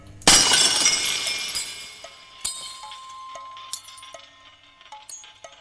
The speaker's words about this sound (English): I drop not one, but 2 new 6-foot bulbs, which pop when they hit the floor. White glass flying like confetti.